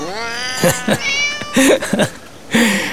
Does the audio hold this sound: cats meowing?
yes